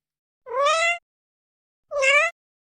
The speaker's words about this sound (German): Oft mauzt sie auch kurz und hell, als ob sie fragen will, Nanu, was ist denn das?